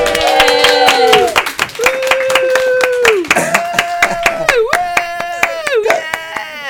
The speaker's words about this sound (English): So let's have a little round of applause and some cheer for Jess Rowe! Yay!